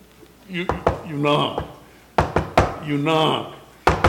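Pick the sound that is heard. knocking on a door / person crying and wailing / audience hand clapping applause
knocking on a door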